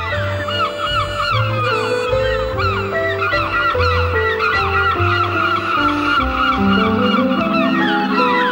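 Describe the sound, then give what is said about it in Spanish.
A dense flock of seagulls calls nonstop, shrill overlapping squawks and cries filling the whole stretch, loud, over a steady low droning backdrop. “¡Han sido las gaviotas!”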